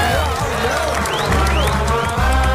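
A loud, steady wash of crowd applause with cheering mixed in, sustained without a break for a few seconds. A few rising whistle-like tones cut through the clapping.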